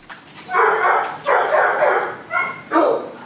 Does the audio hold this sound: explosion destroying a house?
no